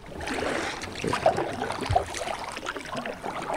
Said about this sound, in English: This is the Black River near the town of Ivanhoe, North Carolina. It's an eerily calm, dark river with the roots of thousands of tall cypress trees popping through the surface of the water like stalagmites in a cave.